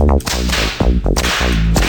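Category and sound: impact, slap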